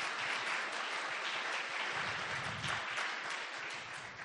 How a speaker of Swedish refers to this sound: Så wow, säger jag. Det var nästan värt en applåd. Ja.